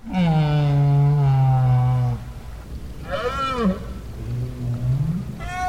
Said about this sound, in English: Parkes made another recording of right whales at the Bay of Fundy, where Maine meets Canada.